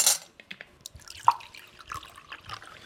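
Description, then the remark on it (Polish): Still (non-carbonated) water is poured into a glass, with light splashing and small drips and a brief ringing clink partway through. The sound is quiet, and no one speaks. “Nalejemy troszeczkę, bo pan...”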